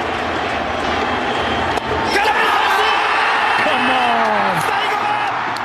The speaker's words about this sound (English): Otani's ready. It's very mellow. Trout's ready. 3-2. He struck him out. Okay, then the roar of the crowd.